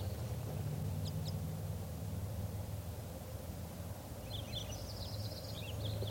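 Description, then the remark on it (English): Faint, high chirping calls from a small flock of wild birds, two pairs with bright red or orange males and two females, of call types 2 and 5, come through a steady hiss and low rumble: a brief pair of notes early on, then a short cluster of twittering calls toward the end. “One of the wild birds is a type 2, and I think it's that orange male there.”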